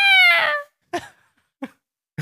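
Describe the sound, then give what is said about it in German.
A voice imitates a goshawk's call with a single loud, high, shrill screech that falls slightly in pitch and lasts over half a second, followed by a few brief breathy sounds. “Kannst du den Habicht nochmal machen?”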